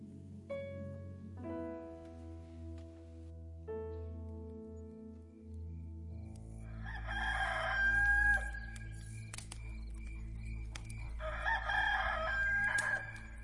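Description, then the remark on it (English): A rooster crows loudly twice in the second half, each cock-a-doodle-doo strained and piercing, over a steady low drone that follows a stretch of sustained tones. “I never noticed how often roosters crowed before.”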